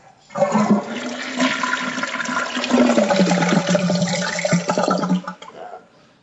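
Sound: toilet flushing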